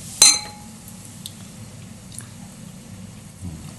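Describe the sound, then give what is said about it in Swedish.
A single bright clink of glasses rings out near the start as people toast, followed by quiet sipping and swallowing sounds of someone drinking beer, with no talking. “Börja med öldrickningspaus direkt.”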